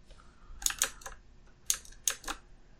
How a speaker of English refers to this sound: I do have a travel one, though, now. Uh-huh. Cool. It's a I just bought it. It's a mechanical keyboard without the arrows and the extra keys on the right. What is that, 87 keys?